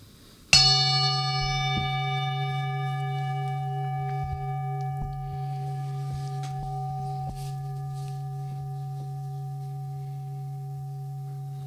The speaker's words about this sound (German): Ich schlage einen Gong an und damit beginnt und endet auch der Dialog.